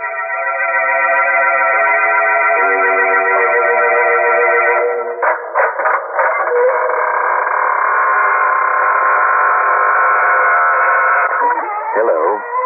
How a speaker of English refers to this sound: Your host, welcoming you through the squeaking door.